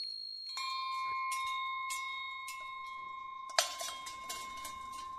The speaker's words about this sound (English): The first thing you notice at Eddie Jones' architecture studio is the cluster of Cosanti bells in his conference room